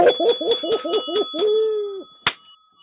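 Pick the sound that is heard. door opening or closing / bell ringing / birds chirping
bell ringing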